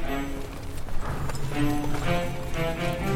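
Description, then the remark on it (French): Hooves clip-clop in a steady, busy rhythm, like several horses moving along together, fairly loud, with a continuous layer of background sound underneath. “Ils emmenèrent aussi tous les chevaux.”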